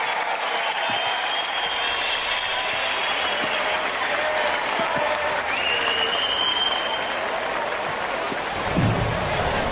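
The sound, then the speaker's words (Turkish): Sustained applause from a large audience at a night event in Istanbul, a dense, steady wash of clapping that holds at an even, fairly loud level throughout, with some faint cheering mixed in. “Alkışlarla.”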